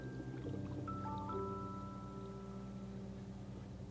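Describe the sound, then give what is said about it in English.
Steady bubbling and trickling water from an aquarium air pump that has just been turned back on, a continuous low hum running underneath at an even, moderate level, with no voices. “Now you tell me when I turn it back on again. You'll see more bubbles.”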